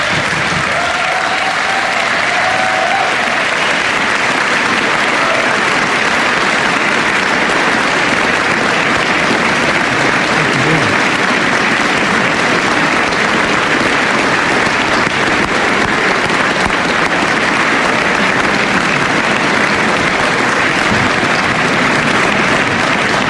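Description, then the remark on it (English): Sustained applause from a large crowd for over twenty seconds, honoring a group of program participants in attendance during an evening speech, a dense, steady clatter of clapping hands at strong, even loudness with no voices standing out. “I want to give them a big round of applause.”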